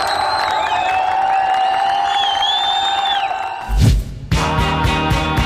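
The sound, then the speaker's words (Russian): A crowd of fewer than 150 Iraqis cheers loudly on a city's central square as US Marines topple a statue of Saddam Hussein, with whistles and rising, wavering shouts over a dense roar, then a sudden heavy thud cuts in and a different steady, tonal sound takes over. “Ликующую толпу иракцев изображает менее 150 человек, которым собственными усилиями свалить памятник не удается.”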